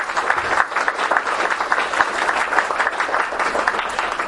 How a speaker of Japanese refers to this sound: 今一度皆様先生拍手をお願いします。